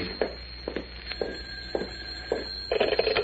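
A telephone bell rings in short repeated bursts, steady in rhythm, then a denser jangling flurry near the end, with no voices over it.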